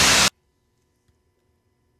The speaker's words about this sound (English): Wow, sounds like a bunch of static. Let me hear that again. Okay. Really? That's the beginning of a song? A strong beginning.